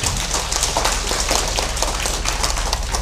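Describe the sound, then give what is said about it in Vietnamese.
Dense, steady applause from a sizable crowd at a Vietnamese Buddhist gathering fills the whole stretch, a continuous patter of many hands clapping at once with no voices over it. “Xin cho một tràng pháo tay thật lớn.”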